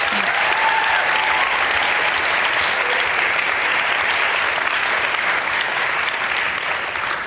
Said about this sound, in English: Let's give you a big round of applause. Thank you.